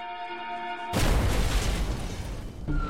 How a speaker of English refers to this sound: The explosion itself had almost completely destroyed the home. One of the neighbors said it felt like an earthquake.